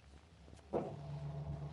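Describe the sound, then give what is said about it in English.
Someone hurriedly comes out of a drugstore and gets into a nearby parked car: a single muffled thump, then a low, steady hum carries on quietly underneath. No one speaks. “Rock hurriedly comes out of a drugstore and gets into a nearby parked car, where a furtive and frightened Al sits behind the wheel.”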